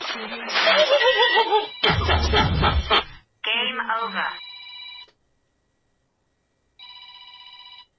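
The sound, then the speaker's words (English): After a burst of voices and laughter, a telephone rings twice: steady electronic trills lasting about a second each, separated by a short silence, clear. “As you probably could have told, I had the phone was ringing, and I'm trying to do holiday stuff.”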